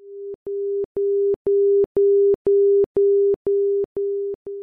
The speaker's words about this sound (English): Passing over the OM, you will hear a series of dashes. A blue light will illuminate. The blue light flashes in unison with a 400 Hz audio tone in a series of Morse code dashes.